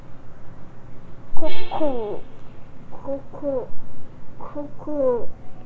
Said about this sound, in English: Cuckoo.